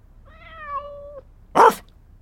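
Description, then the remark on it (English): A single short, loud woof from Mutt the dog, answering a quiz question, rings out after a steady, high tonal whine that lasts about a second, with nothing else around it and no one speaking. “One woof. So it's A, Independence Day.”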